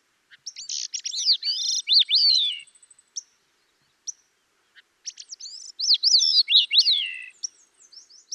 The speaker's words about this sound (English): Some bird songs that created a sonic backdrop to our adventure in Alaska included the song of the gray-cheeked thrush.